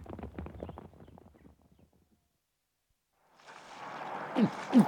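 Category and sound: animal, horse hooves clip-clopping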